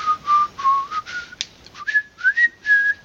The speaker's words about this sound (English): That's my shitty attempt with dry lips to whistle ….